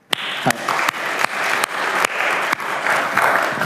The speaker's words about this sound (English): so please give him a warm round of applause.